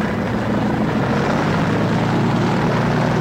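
A loud, steady propeller aircraft engine throbs continuously, a deep pulsing drone with a rumbling low end and no voices, as the plane, loaded with recruits for a static line parachute jump, rumbles down the runway for takeoff.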